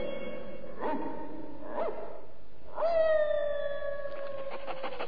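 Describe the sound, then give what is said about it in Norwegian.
Dogs bark in short bursts, relaying an all-dogs alarm, then one breaks into a long, wavering howl that slowly falls in pitch while other barks and yips carry on around it. “Det er en alle hunder-alarm.”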